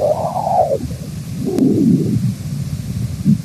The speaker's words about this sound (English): Those chirps, squeaks, and rustles are the sound of young solar wind being born in the plasma around the sun.